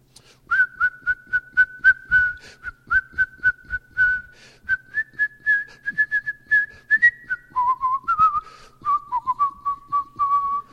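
Someone whistles a bright, bouncy melody, with short rhythmic notes stepping between a few pitches over about ten seconds, with no talking.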